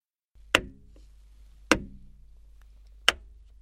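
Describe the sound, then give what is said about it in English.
Three sharp, dry taps of a blind man's stick striking the ground as he walks along a road on a foggy afternoon, spaced unevenly and slightly slowing, each a crisp knock with a short resonant tail over a low, steady background hum. “He tapped the ground in front of him with a stick.”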